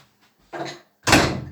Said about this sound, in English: Just shutting the door.